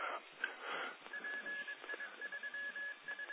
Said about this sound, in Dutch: Ik hoor de pieper ondertoon.